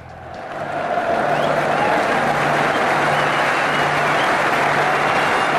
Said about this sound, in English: Well, that's just general crowd sounds. Oh, God. Right, so I'll leave that so running. It's like the Premier League. Yeah, I'll leave that running in the background, right?